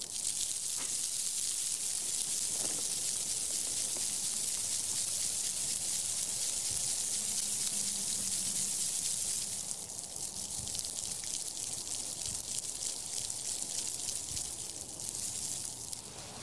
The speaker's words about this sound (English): that was the sound of this poor ice-covered bush being shaken around a little bit